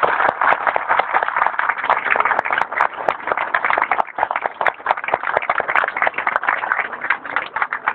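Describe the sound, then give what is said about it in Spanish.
An audience applauds steadily at an event held for the Sombrita Misionera tree-planting project of the Escuela Superior de Comercio número 6, honoring the former student who wrote the project. Many hands clap in a dense, continuous patter with sharper individual claps popping out, sustained at an even loudness throughout without any voices. “que a quien agradezco y pido un caluroso aplauso.”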